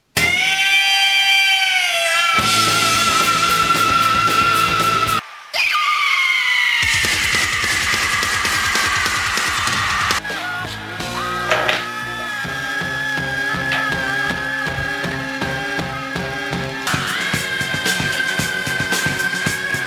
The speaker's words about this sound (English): Okay, right, here we go. Screams.